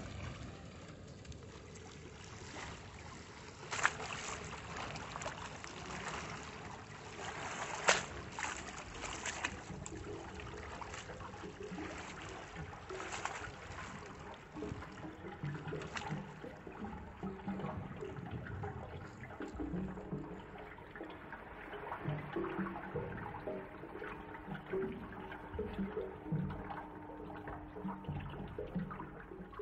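A bottle is let go into sea water, with a couple of sharp splashes early on, then steady sloshing and lapping waves for the rest of the time, no voices.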